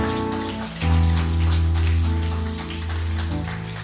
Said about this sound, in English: Keep clapping for her until she sits down. Yes, until she sits down.